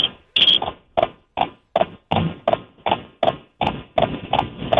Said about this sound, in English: Dude, he's definitely riding a horse. There's no doubt about it. He's got to be riding a horse, right? That's like clippity-clop.